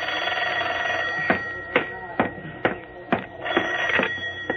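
An old telephone bell rings continuously at moderate volume, its steady jangle cut by a series of evenly spaced sharp knocks. No one speaks.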